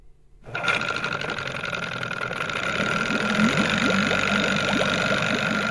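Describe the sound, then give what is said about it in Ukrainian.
A motorboat engine kicks in after a brief moment and runs at a steady, fast, rattling drone, loud, with no voices over it, as the boat is taken out into a bay and driven forward at speed. “Незнайомець вивів човна в затоку, скинув газ і впевнено погнав уперед.”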